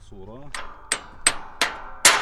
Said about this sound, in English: takes a break from plowing to hammer a busted tractor part back into place.